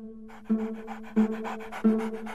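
A dog named Trueno pants steadily in quick, rhythmic breaths, moderately loud, over a faint steady tonal hum in the background.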